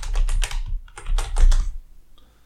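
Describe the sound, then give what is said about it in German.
A quick burst of keyboard typing as someone types a search, rapid clustered keystrokes in two short flurries, then it trails off into quiet. No one speaks. “Ja, such mal, du bist doch gerade so schön am Tippen gewesen. Such mal weiter hier.”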